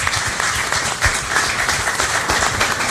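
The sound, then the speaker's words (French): A crowd at the concert show Cause Kilti applauds steadily for an invited guest, a dense wash of many hands clapping at once, loud and sustained for the full few seconds with no voices above it. “J'ai à ma droite une invitée que je vous demande d'applaudir,”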